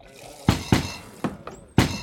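Five sharp, solid knocks on a door, two in quick succession followed by three more at looser intervals, loud against a quiet background.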